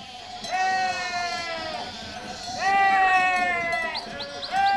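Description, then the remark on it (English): Sheep bleat loudly, two long wavering cries one after another, followed by shorter overlapping bleats from several animals, as a shepherd and helpers drive them with sticks and drag them by their hind legs toward a village square. “The village square, where the band is playing and the crowd is waiting, is the last place the sheep want to go.”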